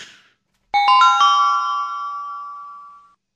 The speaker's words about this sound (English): Ring the bell.